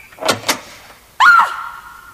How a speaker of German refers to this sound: Und dann dauerte es nicht lange, als sich zuerst die Türe im ersten Stock öffnete.